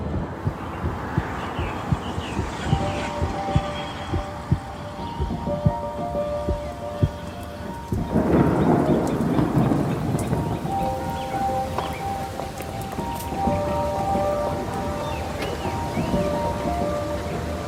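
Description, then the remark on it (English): Torrential rain pours down in a dense, steady hiss with sharp crackling patter, growing heavier for a stretch partway through, loud throughout with no voices. “By the time I got here, it was absolutely torrential rain.”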